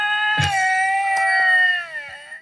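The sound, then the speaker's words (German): Two tomcats, angry at each other, yowl in a long, unbroken, drawn-out wail that slowly sinks in pitch, loud and steady, with a few soft thumps and clicks underneath and no talking. “Die keifen sich gerade krass an.”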